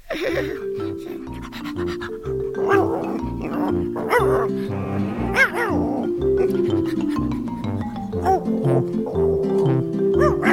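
A dog barks in short repeated bursts over a steady musical backing, fairly loud, with a few yips and panting sounds between the barks.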